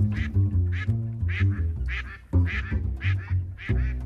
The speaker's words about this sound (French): qui est un canard migrateur qui avait disparu du lac parce qu'il se nourrit d'une espèce bien précise de plantes aquatiques